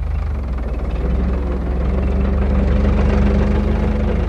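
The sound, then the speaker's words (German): A tractor engine idles with a steady, heavy low-frequency chug and rhythmic knocking that continues throughout, with no one speaking. “Mehr dazu über das Hobby Traktorfahren im 3. Teil von «Menschen und Horizonte» hier auf SRF 1.”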